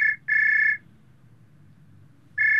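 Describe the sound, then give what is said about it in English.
A telephone rings at home in the classic double-burst pattern, a steady, bright electronic trill that pauses and starts again, heard alone over a faint low hum. “Dialogue. The phone call. Jeff is at home when his mum calls.”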